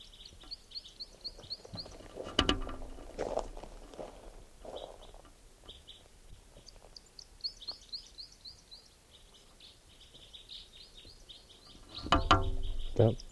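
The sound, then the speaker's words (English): A bird calls repeatedly in quick, high-pitched chirping bursts, with a few louder thumps and rustling noises breaking in, including a loud burst near the end. “Where's that bird?”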